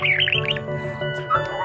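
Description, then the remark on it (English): A pet bird chirps and warbles in quick, wavering bursts, steady over a low indoor hum, with no one talking. “That's Doc, our bird, in the background for this episode.”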